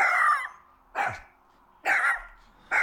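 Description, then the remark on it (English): A dog barks four times at a steady pace, each bark sharp and loud with a slightly strained, yelping edge, with quiet gaps between them and no voices. “No, he's barking. That's pitiful. He's barking.”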